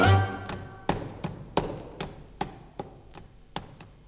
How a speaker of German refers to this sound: Da wird's geklopft, der Schnitzel.